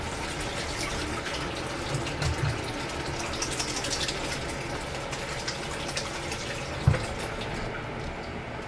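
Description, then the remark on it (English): Hot water pours steadily over freshly ground coffee in a continuous splashing stream as the grounds are mixed with the water, with a single soft knock near the end and no voices. “I pour the grounds in and mix them with the hot water.”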